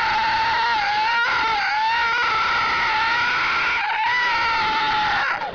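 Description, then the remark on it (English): A voice imitates tires squealing on the paved roof of a parking garage while driving about 5 miles an hour: one long, loud, high-pitched screech held for over five seconds, wavering slightly in pitch, with brief dips near the start and toward the end. “It sounds like you're in a chase scene from Chips.”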